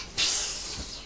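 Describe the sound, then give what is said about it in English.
A child makes a long, steady hissing sound with the voice, imitating the airy release of truck brakes; the breathy noise starts abruptly and holds for nearly a second before tapering slightly. “It's the noise of the brakes, isn't it?”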